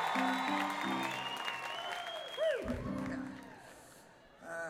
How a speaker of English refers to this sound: And well, you can clap if you want, but it's just a fishing village. Yeah, I would like it if you clap.